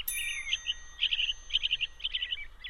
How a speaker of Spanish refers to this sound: Los pájaros cantan. The birds sing. They sing.